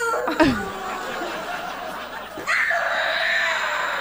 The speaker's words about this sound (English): So in the background, you hear the little brother actually screaming, getting angry, and the older sister was like, eat an apple. And the little brother's like, no, like he's so just disappointed and sad that his parents ate his candy.